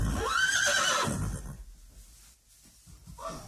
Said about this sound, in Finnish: Kuules, miten komeasti minä hirnun.